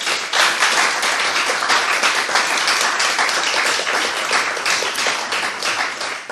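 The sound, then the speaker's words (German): Sustained, loud applause from a crowd welcoming a guest on a warm Sunday, a dense rapid patter of many hands clapping steadily for several seconds with no voices. “bitte einen warmen Applaus an diesem warmen Tag.”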